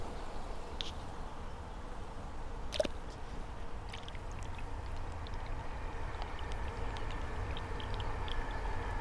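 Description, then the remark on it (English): Steady rushing of river water flowing nearby, a constant broad wash of sound with occasional faint drips and small splashes breaking through, no voices. “So noisy up here with road, river and train in close proximity.”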